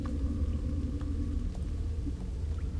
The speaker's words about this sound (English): I suppose the storm caught you off guard. And you're looking for shelter in my cave.